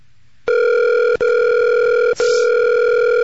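A steady, buzzy electronic ringing tone from an outgoing phone call placed through Vonage holds loud and unbroken for about three seconds, cut only by two very brief dropouts. No one speaks.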